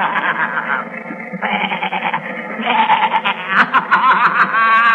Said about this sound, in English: There are a lot of billy goats.